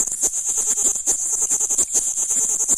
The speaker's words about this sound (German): Das alles stört die Wasserwanze nicht. Die Männchen haben zu tun. Ihr Konzert ist angesagt. Einer fährt an, mit dem Zirpen. Die anderen kommen rein und gleich sind sie im Takt.